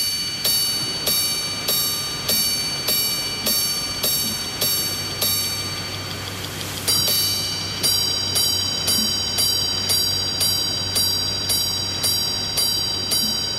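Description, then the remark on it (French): A Grebel-Forcet grande sonnerie (grand strike) watch chimes, sounding a steady series of bright, ringing metallic gong strikes, briefly broken by a quick flurry of rapid notes before the evenly spaced strikes resume. “Voilà le son que produit cette montre.”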